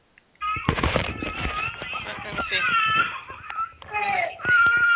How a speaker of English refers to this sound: Oh, there's a baby crying. I thought it would be a sound of the croup. We don't really hear it very well on that.